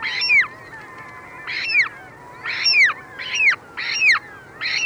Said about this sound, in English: Less familiar is a remarkable bird that shares with the polar bear this vital link to ice, the ivory gull.